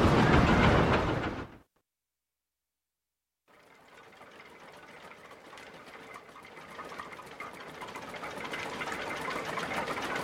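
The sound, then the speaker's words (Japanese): A water mill wheel turns and grinds wheat into flour with a steady, rapid mechanical clatter over rushing water. A loud burst cuts to a brief silence, then the rhythmic grinding builds gradually louder. “大村さんの水車は今日も回り続けます。”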